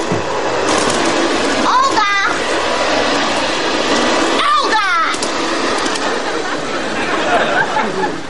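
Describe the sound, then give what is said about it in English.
A loud, steady vacuum cleaner roars throughout, with muffled voices and a couple of brief rising whines cutting through the constant motor noise. “I am liking your vacuum very much. It really sucks.”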